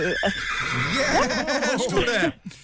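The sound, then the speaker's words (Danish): A horse whinnies loudly, one long wavering neigh that rises and falls over steady background noise before cutting off abruptly near the end, as the horse snatches a parsnip. “Og kom hesten og snuppede den pastinak derovre.”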